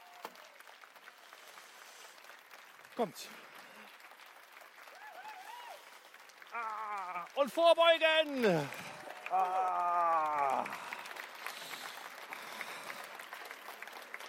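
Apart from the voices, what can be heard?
audience applause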